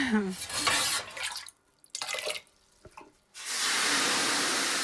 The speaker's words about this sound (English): We're in Glenmuir Valley, beside the Avonbeg River, and there's a stream meeting the Avonbeg River, and we're right in the centre of the valley, on the floor.